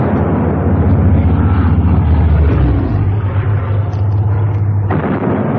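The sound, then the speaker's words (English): A heavy, continuous roar of a German air raid, with deep droning engines and rumbling, booming blasts merging into a dense wall of sound, loud and unbroken, with no voices. “They should be due now, if they're coming. They're coming, all right. Bang on time. Typical Jerry.”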